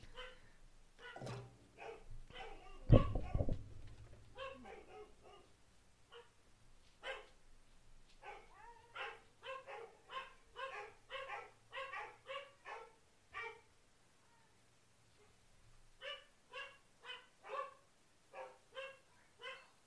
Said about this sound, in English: I'm going to pause you a minute because the dogs are going nuts because, of course, the doorbell rang.